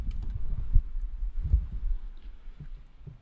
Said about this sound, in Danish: står så bakser med nøgler og kigger i lommer, hvor man har alt det gear, han skal bruge for at stoppe opladningen af den her Opel.